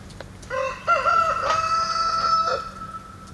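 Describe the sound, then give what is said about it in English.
A rooster crows once, a loud cock-a-doodle-doo lasting about two seconds, rising and then holding a strained, harmonic-rich note before cutting off, with a faint low hum beneath. “And so today's theme I liken to story time by the fire with Jameson, featuring a rooster.”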